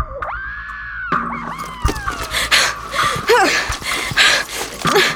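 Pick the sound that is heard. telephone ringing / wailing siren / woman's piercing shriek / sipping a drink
woman's piercing shriek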